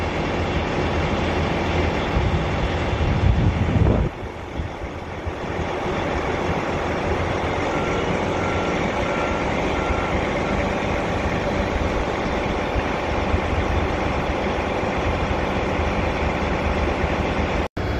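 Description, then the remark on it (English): On December 28, a second airplane passes overhead about five minutes after another, with a steady, broad roar. A deeper rumble swells for the first few seconds, then eases into an even, sustained whooshing drone with no voices. “It's been about 5 minutes or so since that other plane went by, and here's another one going by. Different plane for sure.”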